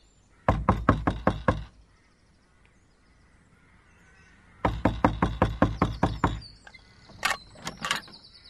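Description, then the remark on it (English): Two bursts of rapid, loud knocking on the wooden door of a humble dwelling, roughly seven raps and then about nine after a short pause, followed by a few brief squeaky sounds. “But you can be sure that by 10 o'clock I was knocking at the door of that lowly habitation.”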